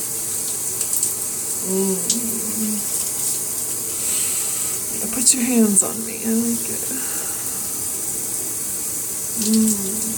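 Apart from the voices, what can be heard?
shower water running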